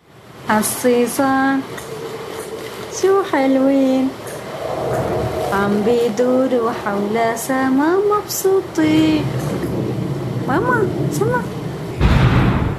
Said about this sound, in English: After the singing, you heard an explosion in a hospital in Aleppo.